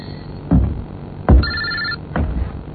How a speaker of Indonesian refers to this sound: dering handphoneku berhenti.